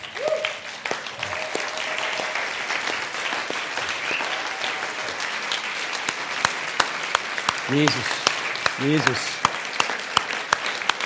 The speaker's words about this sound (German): Können wir mal aufstehen und Jesus einen Applaus geben dafür.